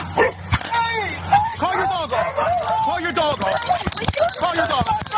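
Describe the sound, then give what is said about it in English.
A dog that has just bitten a man barks and yips frantically, a rapid, nearly continuous string of sharp, high-pitched cries, with agitated human voices mixed in underneath. “Call your dog off. He just bit me.”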